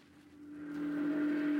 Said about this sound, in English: A steamboat.